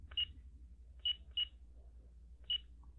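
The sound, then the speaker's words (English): Four short, high electronic keypad beeps at uneven intervals as keys are pressed one at a time to enter a new code, over a faint low hum with no talking. “It just beeps if you have your sounds turned on.”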